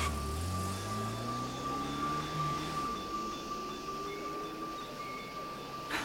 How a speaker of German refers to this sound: Das Taxi fuhr an und fädelte sich in den Verkehr ein.